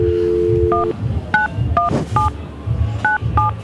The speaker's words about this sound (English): Tell me when we're ready. You can just patch through once we start ringing. we can talk to that person, that special person. Here we go.